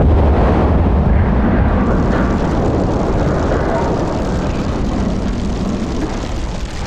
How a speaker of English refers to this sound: Flint slammed his hand down on the ground, and in seconds, most of the training field was ignited.